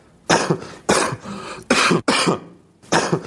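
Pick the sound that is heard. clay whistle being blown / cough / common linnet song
cough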